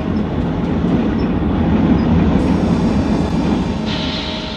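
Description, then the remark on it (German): A heavy express train rumbles loudly and steadily, with a rushing roar of wheels on rails, and a high metallic brake squeal rises near the end as it slows after the emergency brake is pulled, stopping at Güllen on the Venice–Stockholm line. “Der D-Zug hält in Güllen.”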